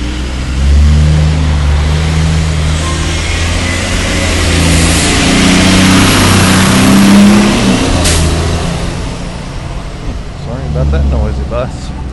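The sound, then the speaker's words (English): A hybrid or electric bus drives past, a steady low engine hum and broad road rumble swelling as it nears, then easing away, with faint voices toward the end. “We've actually got some electric buses here, or hybrids, too, that are really cool.”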